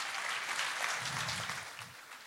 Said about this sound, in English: Hey, round of applause for the team, guys.